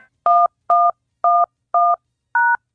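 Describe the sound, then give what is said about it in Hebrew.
Five short, evenly spaced telephone keypad beeps as a code is punched in on a call to the Prime Minister's residence phone line, each a crisp dual-pitched DTMF tone, loud with silence between them. “מצטערים, טעיתם בהקשה.”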